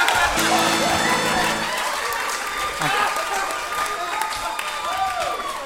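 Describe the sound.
Steady audience applause, a dense wash of many hands clapping that holds at a fairly even loudness throughout, with scattered voices from the crowd mixed in.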